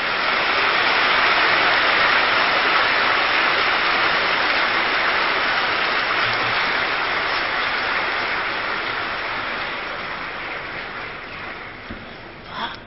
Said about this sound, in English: So you can clap for them. And everyone is clapping. You can clap loudly. Never mind, clap well.